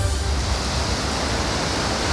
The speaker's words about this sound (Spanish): Es la crecida del río en Córdoba. El Guadalquivir. Del Guadalquivir. Al paso por el puente romano, con una fuerza increíble que yo no lo he visto nunca así.